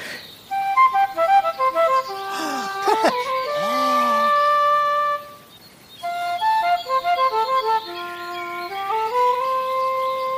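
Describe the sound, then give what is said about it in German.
A hand-carved wooden flute plays a lilting melody of quick stepped notes, swoops through a few sliding, held tones, pauses briefly, then resumes with another run ending on a long, lower note. “Moment mal, ist das eine Flöte, die du da in der Hand hältst? Ganz recht, ich habe sie selbst geschnitzt.”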